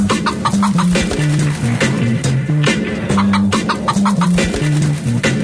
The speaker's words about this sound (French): Voici donc la chanson de la grippe du poulet, une production Planète Arthur.